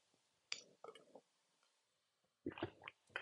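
sipping water

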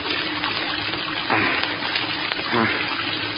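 water gushing

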